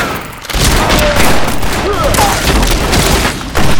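A dense, loud burst of gunfire erupts after a brief lull and rolls on without a break, sharp cracks layered over heavy booming like a battle, as soldiers are shot.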